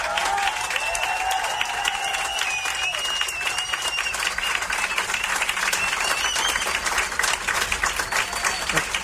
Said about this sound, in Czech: Jiří Prskavec a Lukáš Krpálek byli hosty speciálu Radiožurnálu. Pánové, moc krát vám děkuju, ještě jednou vám moc gratuluju a samozřejmě potlesk pro vás.